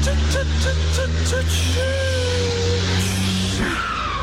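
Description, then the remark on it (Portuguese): A heavy truck that has lost its brakes: the engine drones loudly, a rushing brake hiss builds, and the engine note drops off as the truck comes to a stop, with faint voices mixed in. “Perdeu o freio, perdeu o freio. E agora? Segura.”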